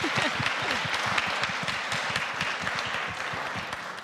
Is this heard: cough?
no